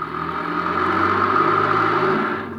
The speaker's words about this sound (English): There's a car coming out of the alley.